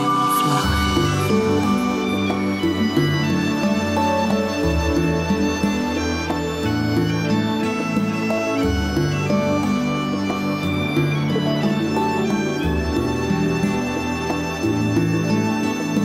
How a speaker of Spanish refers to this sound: Por no faltar, no faltan ni siquiera las gaitas de Mar Adentro.